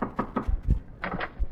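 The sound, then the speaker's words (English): A series of sharp knocks on a house door, about half a dozen raps in quick uneven clusters, moderately loud, with no voices. “If you want her to get out of your house, go in there and assert yourself. Now, go ahead, knock at the door.”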